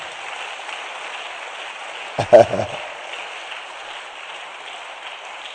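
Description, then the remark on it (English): A large church audience at a retreat claps steadily throughout, a dense wash of applause at an even level, with a brief louder burst of voices or thumps near the middle. “Phenomenal clap for them as they take their seat as well.”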